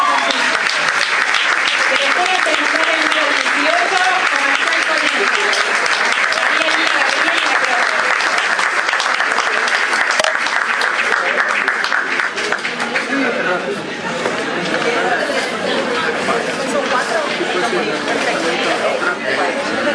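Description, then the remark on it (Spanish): Loud, sustained applause from an audience for Secondary School No. 18 of Conejo fills the whole clip, a dense crackle of many hands clapping, with crowd chatter and cheering mixed in as it thins slightly toward the end. “Un aplauso para la escuela secundaria número 18 de Conejo.”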